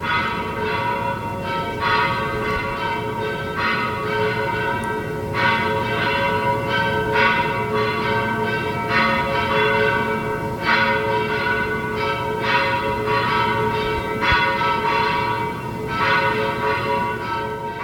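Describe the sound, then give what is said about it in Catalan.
Church bells of the parish of l'Assumpció peal from its bell tower at 9 a.m. on a Monday during Holy Week in Pego, announcing the start of the Salpassa, several bells overlapping in a rapid, rolling rhythm with strong ringing overtones, loud and steady throughout with no voices. “I avui dilluns a les 9 del matí hem pogut sentir el vol des del campanar de la parròquia de l'Assumpció.”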